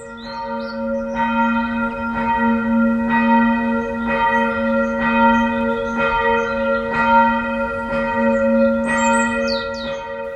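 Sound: church bell ringing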